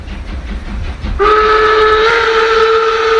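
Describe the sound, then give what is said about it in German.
An old German steam locomotive, number 01 202, blows its whistle loud and sustained as it pulls into platform 8 of Brig station shortly after 3 in the afternoon, a steady shrill tone starting abruptly over the low rumble of the train, with no voices. “Eine alte Dampflok, die ist eingefahren.”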